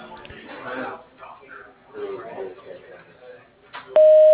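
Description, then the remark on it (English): A voice speaks briefly, then a loud, steady single-pitch voicemail beep sounds and holds on its own through the end, the cue to start recording a message. “Please leave a message with a clear phone number after the time, and we will get back to you as soon as we can.”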